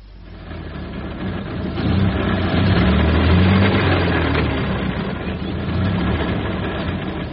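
A car engine, just jump-started with long leads from another car after a flat battery, runs steadily with a low rumbling idle that swells slightly in loudness partway through before settling back to an even hum, with no talking.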